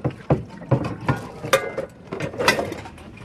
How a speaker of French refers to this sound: vous êtes en train de faire la plonge dans un jardin. C'est génial de faire la vaisselle dehors.